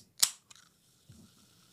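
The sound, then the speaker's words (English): A sharp crack of a Diet Coke can being opened, a small click, then a faint, steady carbonated fizz hissing softly on its own. No one speaks. “All right, I'm going to do a little ASMR Diet Coke moment.”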